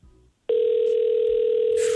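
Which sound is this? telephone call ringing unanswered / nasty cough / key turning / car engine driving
telephone call ringing unanswered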